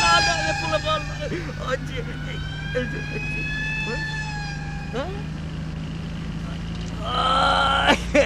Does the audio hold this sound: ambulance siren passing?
yes